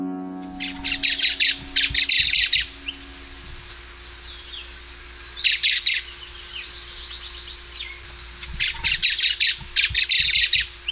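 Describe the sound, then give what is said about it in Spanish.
Three bursts of harsh, rapid squawking calls from a social flycatcher, a 17 cm tyrant flycatcher, each lasting about a second or two with pauses between, loud over a faint steady background hum. “Luis Gregario, de nombre científico Myrsetetes similis, del orden Passeriformes y de la familia Tiránide.”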